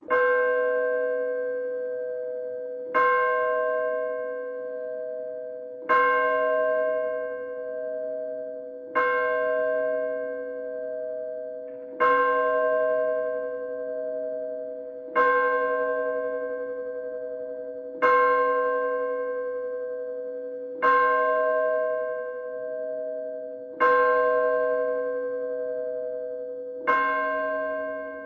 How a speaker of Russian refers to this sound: А благовест, от слова «благая весть», это церковный звон одним большим колоколом, извещающим о начале богослужения. Его называют музыкальной проповедью, вынесенной за порог церкви.